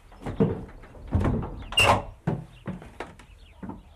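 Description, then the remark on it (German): The old original wooden door up to an attic in Hesse, Germany, is opened, with a series of creaks, knocks and rattles over a few seconds and a brief high squeak of the hinge midway. “Wenn man hier die Tür aufmachte, das ist die Originaltür, und guckte so geradeaus, dann sah man eben nur, da ist noch eine Tür, die Tür war auf, da war keiner.”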